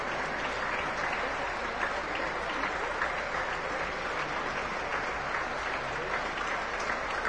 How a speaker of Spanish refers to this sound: Sigue el aplauso, sin duda debe de seguir el aplauso. Por demás, interesante e importante esta cátedra.